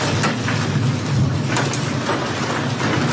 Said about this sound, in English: Hail falls on Sabrina Devers' property in Perryton, Texas